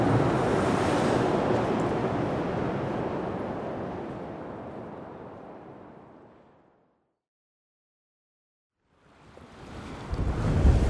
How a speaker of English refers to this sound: Ooh, mighty windy down by the bay, down on a pier, having two different hoods.